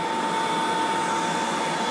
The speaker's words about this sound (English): There's a dryer.